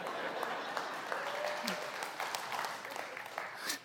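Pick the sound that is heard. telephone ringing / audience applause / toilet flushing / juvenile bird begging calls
audience applause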